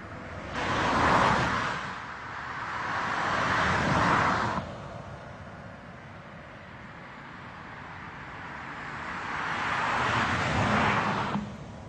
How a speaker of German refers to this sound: Noch einmal. Diesmal fährt zuerst ein Auto vom Lärmarmen auf den Normalbelag.